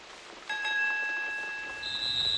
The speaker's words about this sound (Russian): 3-й звонок оглушил меня.